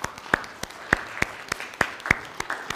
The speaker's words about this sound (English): And we don't usually clap for music, but we can clap for these folks right here.